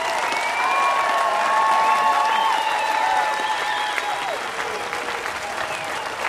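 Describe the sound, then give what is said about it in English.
A live crowd at the Newport Folk Festival applauds steadily and loudly after a singer's set, a dense wash of clapping with scattered whistles and cheers rising above it, sustained throughout as the audience calls for an encore. “The crowd definitely into it and calling for an encore.”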